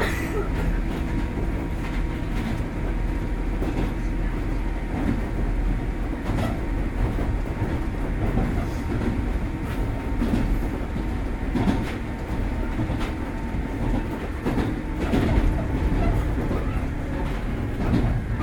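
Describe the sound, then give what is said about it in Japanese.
A steady, heavy low rumble of a train running along the rails as it approaches Funamachi station, with faint rhythmic clacks and a constant mechanical hum throughout, no clear talking over it. “ありがとうございました。まもなく船町です。出口は右側です。ドアは半自動です。”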